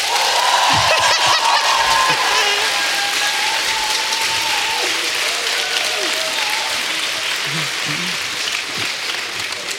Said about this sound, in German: Stimmen wir ab? Ja. Hummel oder Reh? Ich mach mal deinen Trick. Ja, wenn du der meint, nee, Hummel, mega geil. Applaus bitte jetzt.